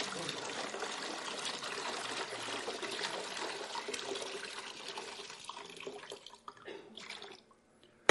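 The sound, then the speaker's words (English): Water pours steadily into a container for several seconds, a broad splashing rush that gradually thins and trails off into silence near the end. “No milk. All water.”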